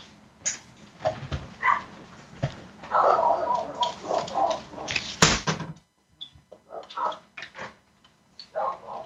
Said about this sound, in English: Dogs are barking in the backyard. I'm not being distracted.